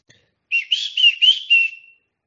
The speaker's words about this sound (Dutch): Oei, we hebben ook een vogel in de Raad voor Maatschappelijk Welzijn.